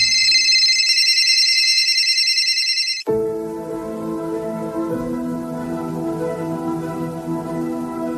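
A mobile phone rings with a shrill, high electronic trill, then abruptly gives way to a different, fuller melodic ringtone that keeps playing steadily and loudly, with no one speaking.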